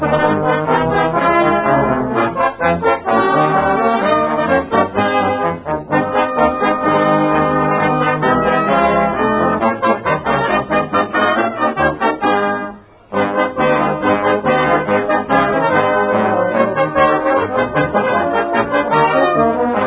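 The band, a brass band, plays Jingle Bells, full and steady throughout, with a brief pause in the middle before the ensemble comes back in. No one speaks.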